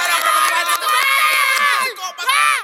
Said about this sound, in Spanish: con ustedes, un fuerte aplauso,